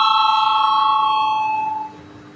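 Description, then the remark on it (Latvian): A parliament voting bell rings in one steady, bright tone for nearly two seconds, then quickly fades away, calling deputies to vote on a draft decision. No voices can be heard. “Lūdzu zvanu.”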